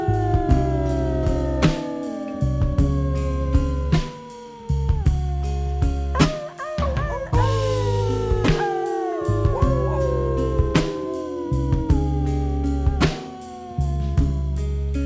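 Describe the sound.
A voice imitates a dog's howl in long, wavering, downward-sliding cries, loud, over a steady musical backing with a droning bass and rhythmic beats.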